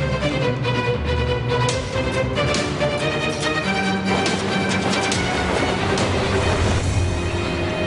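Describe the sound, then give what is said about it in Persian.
A train rumbles steadily along the rails, a loud, dense mechanical roar with repeated metallic clacks and squeals running throughout, no voices present. “سرعت قطار رو میتونی زیاد کنی؟”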